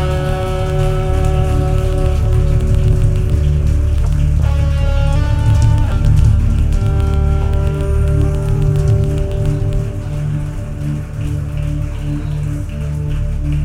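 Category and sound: crowd, audience applause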